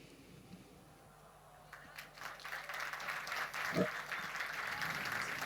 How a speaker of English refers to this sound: Ein herzlichen Applaus. Thank you. A warm round of applause